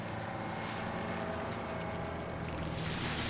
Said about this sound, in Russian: Ночью рейсовый автобус проезжает мимо стоящих автобусов в автопарке.